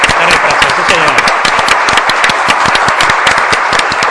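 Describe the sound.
A crowd applauds in memory of Terry Pratchett, steadily throughout, dense overlapping claps forming a loud, continuous wash of sound with sharp individual hand claps standing out, and faint voices mixed in underneath.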